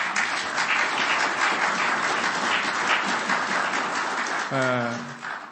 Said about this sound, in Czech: můžete mu zatleskat, jestli chcete.